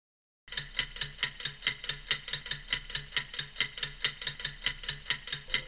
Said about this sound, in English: That clock represents the passage of time here at Life of Ben.